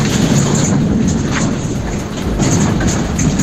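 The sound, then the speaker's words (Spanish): A steady, loud low rumble of thunder rolls on without a break in Mota del Cuervo as it starts to rain, mixed with a constant broad hiss of pouring rain. No one speaks. “Aquí en Mota del Cuervo, como podéis comprobar, tronando y enganchándose a llover.”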